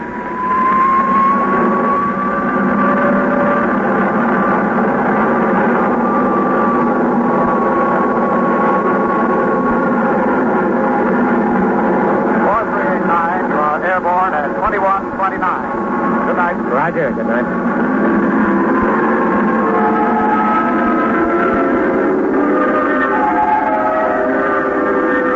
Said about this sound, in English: Tower, this is Air National Guard Jet 4389. Request takeoff clearance. 4389, cleared for takeoff. Roger.